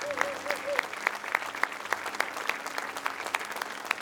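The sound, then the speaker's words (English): An audience claps steadily, many hands producing a dense, continuous patter with sharper individual claps standing out at a brisk, fairly regular rhythm, while a faint sustained tone hums underneath. “You just keep clapping, church.”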